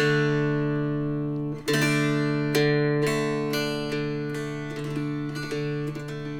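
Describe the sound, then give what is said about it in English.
A tuned dulcimer strummed on its open strings with nothing else done to it, ringing out one steady, buzzing drone chord, with bright strokes repeating in a loose rhythm every half second or so. Loud and sustained, with no voices. “If you have a good instrument, which isn't expensive, and you get it in tune, and you strum it without doing anything else to it, this is what you get.”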